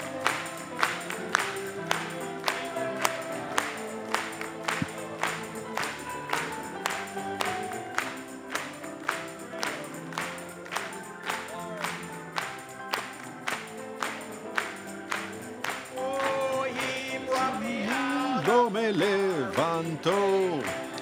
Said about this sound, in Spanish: Vamos a aplaudirle.